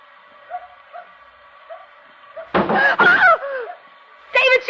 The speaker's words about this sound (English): There it is. I don't hear... It's a dog. It's a little dog barking.